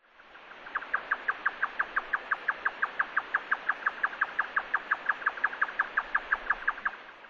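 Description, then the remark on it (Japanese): A grey nightjar churrs alone in a long, steady run of rapid, evenly spaced notes, about six per second, clear against a faint background hiss. “ヨタカです。”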